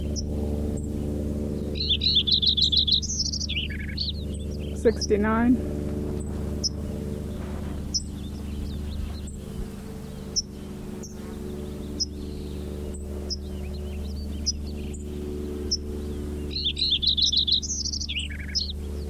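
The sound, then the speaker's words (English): A Lincoln's sparrow sings a bubbly, rapid warbled song of high trilled notes, repeated twice with a pause between, over a steady low hum and a few scattered clicks. “Lincoln Sparrow number 3 continued.”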